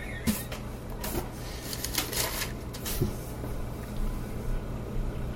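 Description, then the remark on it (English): Crisp rustling of thin paper pages that stick together being fingered and pulled apart while turning to Romans 8, in several short scratchy bursts over a low steady hum, with no one talking. “Sometimes this paper just loves to stick together.”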